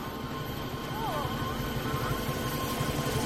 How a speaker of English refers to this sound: A helicopter hovers overhead.